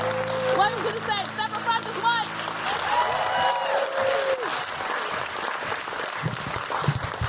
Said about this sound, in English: Digital photography. Woo! Yes, absolutely. There's a big cheer for digital photography. Come on, make it a bigger cheer.